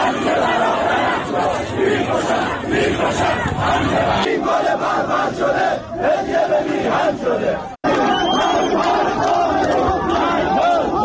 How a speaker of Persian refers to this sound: در ویدیوهای منتشر شده از مراسم خاکسپاری امید سرلک در شهر علی گودرز استان لرستان، اما حاضران علیه حکومت شعار می دهند.